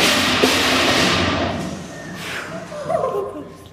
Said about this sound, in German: Es sieht aus, als wäre das Ding ausgestopft und auf einem Brett mit Rollen befestigt. Das Mammut rollt noch ein Stückchen weiter, wobei es 2 Mülltonnen umwirft.